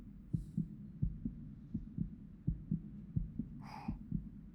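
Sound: fast heartbeat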